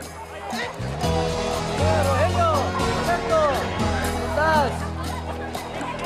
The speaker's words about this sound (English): Old Fort Sumner, New Mexico Territory, 1879. The locals surround Billy, Garrett and Dave, cheering and handing them gifts.